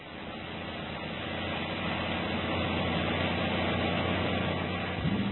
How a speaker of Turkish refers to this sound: Yürü koca kamyon, yürü de Halil'in namı yürüsün.